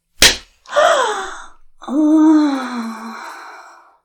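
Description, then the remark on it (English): A single sharp slap on the face, immediately followed by a breathy gasp and then a long, drawn-out moaning groan that trails off. No talking. “And another slap.”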